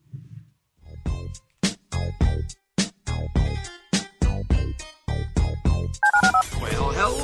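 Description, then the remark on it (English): A rapid run of short, loud telephone keypad beeps, around a dozen tones in quick succession as a phone number is dialed, ending in a dense electronic warble. “Dial the phone.”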